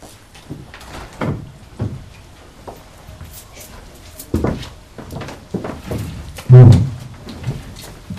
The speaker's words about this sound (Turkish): O kapıyı açayım.